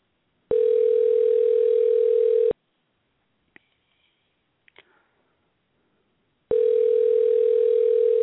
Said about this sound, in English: Phone is ringing. Can y'all hear the phone ringing? Okay, they are not home.